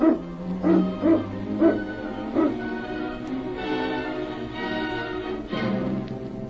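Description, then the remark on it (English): A pack of sled dogs barks and yips excitedly, short sharp calls overlapping in an irregular burst, with whining and yelping blending into a busy chorus. “Get the dogs up, King.”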